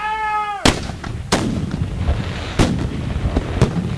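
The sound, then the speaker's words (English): Several loud cannon blasts from gun number six boom out at irregular intervals in a battle reenactment of the American attack on Queenston Heights of October 13, 1812: four sharp reports with rumbling decay, preceded by a brief harmonic whistle or shout-like tone at the start. “Battery to action! On October 13, 1812, the Americans launch an attack on Queenston Heights. Gun number six.”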